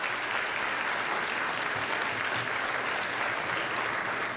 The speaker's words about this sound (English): And so I want to really give Chris and her whole team a big round of applause.